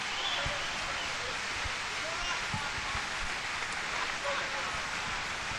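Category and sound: crowd, audience applause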